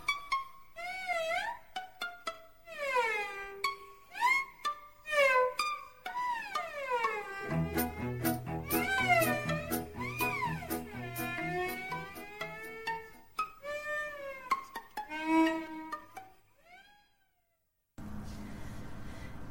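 A cat meows over and over in rising and falling cries, some overlapping, loud; partway through, a low musical accompaniment joins underneath before the meowing trails off.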